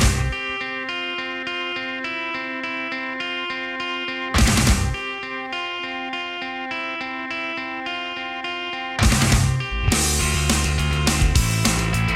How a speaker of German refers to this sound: Ich mag auch diesen knurrigen Bass-Sound. Ja, unbedingt. So. Das ist auch eine ganz eigenwillige Verzerrung, finde ich. Ja, es ist auch hart gedoppelt, glaube ich.